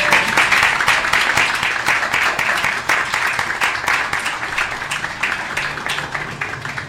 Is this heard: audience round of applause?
yes